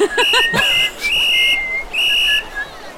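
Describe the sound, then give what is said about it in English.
A very loud, shrill whistle sounds in sharp repeated blasts: a quick trill, then two long piercing tones with brief gaps between them, dominant with no one speaking. “Okay, so I will judge that you regroup to the sound of a very loud whistle.”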